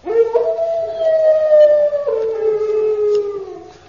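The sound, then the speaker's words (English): A hound outside lets out a long, mournful howl, rising then slowly sliding downward in pitch over a few seconds, loud, with a brief break partway through. “That's no ordinary dog. It's a hound.”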